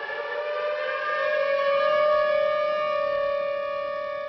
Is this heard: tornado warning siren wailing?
yes